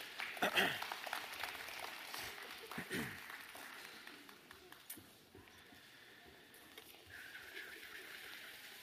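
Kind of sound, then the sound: crowd, round of applause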